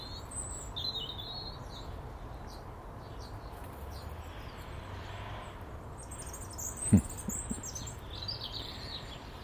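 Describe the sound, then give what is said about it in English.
A female blackbird, feeding on bread and porridge on a dry, cold morning, calls with scattered short, high chirps and tweets over a steady low outdoor rumble, with one sharp tap partway through. No one speaks. “As Mrs. Blackbird stuffs her belly with bread and porridge.”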